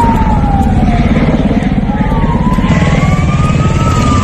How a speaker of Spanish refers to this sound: Es el sonido de los helicópteros esta mañana en Tarifa, en la provincia de Cádiz